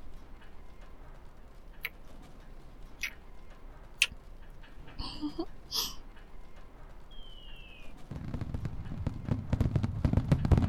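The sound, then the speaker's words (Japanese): Sparse, sharp pops and crackles of a fireworks display that has just begun go off at irregular intervals in the distance, followed by a low, rumbling swell of booms toward the end, over a quiet background. “花火始まったみたいですね。ここからではよく見えませんね。”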